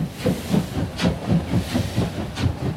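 A steam locomotive hisses steadily at the Franz-Josefs railway station in Prague, with broad bursts of hiss recurring about every half second over a low rumbling chug, with no voices.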